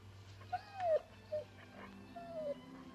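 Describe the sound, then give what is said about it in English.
A dog whimpers at a new refrigerator in a few short, high whines that slide downward, spaced apart, with a low steady hum underneath. “I wouldn't bark at something you've always wanted.”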